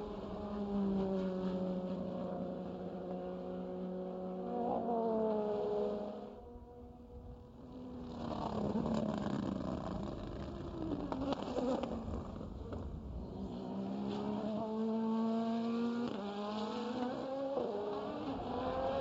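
The number 8 Tower Motorsport race car, driven by John Ferrano, drones loudly and continuously, its high buzzing pitch climbing through gears, dipping briefly, then revving up and sweeping down again as it passes. No one speaks.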